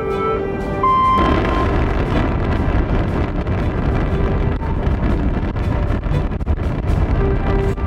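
The antigravity engines of a transporter starting up: a low hum with steady tonal whines swells after a second into a loud, continuous roaring rumble that churns on without pause.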